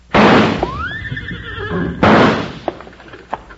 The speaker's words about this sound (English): Hey, it worked. Them two horses took off like they were heading for the barn.